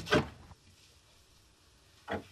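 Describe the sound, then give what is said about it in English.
Two firm, single knocks by someone on their own door, about two seconds apart, with near silence between them and no voices. “Never knocked on my own door before.”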